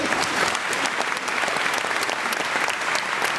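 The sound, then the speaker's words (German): A crowd steadily applauds the actors after an open-air Treasure Island play in Fulda, Germany, dense clapping at an even loudness throughout with no voices standing out. “Der Applaus war den Akteuren auch in diesem Jahr wieder gewiss”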